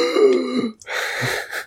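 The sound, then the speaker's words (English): A voice makes a wet, gurgling, retching cough sound, imitating someone coughing up blood, in two rough bursts with a brief gap between them. “just like coughing up blood.”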